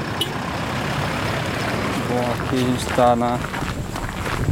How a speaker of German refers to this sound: Es geht eine dunkle Schotterstraße entlang. Ein paar Autos fahren vorbei.